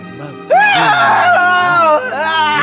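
A person wearing a costume screams loudly in a long, high, wavering cry while raised into the air and passed along as though crowd surfing, breaking briefly before a second sustained scream, preceded by a quieter low vocal sound.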